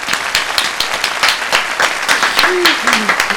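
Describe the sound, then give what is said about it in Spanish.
An audience on a programme applauds a guest steadily, a dense patter of many hands clapping, with a brief vocal cheer rising near the end. “¡Le doy un aplauso a ella!”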